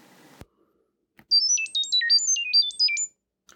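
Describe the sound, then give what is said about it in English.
A rapid sequence of high-pitched electronic chirps jumping between tones in a quick melodic pattern. It is about two seconds of data-transmission tones from the Chirp.io app, which uses audio to send information between mobile devices, after a brief click, with no talking. “I don't know if you heard that or not, but that was an application called Chirp.io. And what it does is it uses audio to communicate information between mobile devices.”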